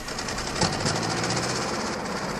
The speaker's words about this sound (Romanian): După zgomot s-ar părea că au plecat cu un tractor.